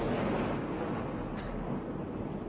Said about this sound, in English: That was a rather large explosion.